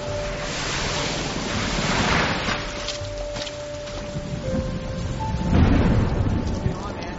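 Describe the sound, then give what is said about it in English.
Rain falls steadily in a dense, unbroken hiss, with deep rumbling swells rising twice beneath it like rolling thunder. “How you liking the rain, girl?”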